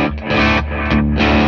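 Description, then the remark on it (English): Loud, gritty electric guitar through a Clarksdale overdrive pedal and tape echo, thick sustained chords swelling and blending into one another with a smeared, repeating tail, played alone without any talking. “So right now we got the Clarksdale and the tape.”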